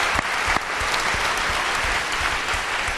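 An audience claps steadily, a dense, loud wash of many hands with a few sharper individual claps standing out, sustained evenly throughout without voices on top.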